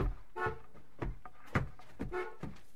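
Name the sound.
car horn honking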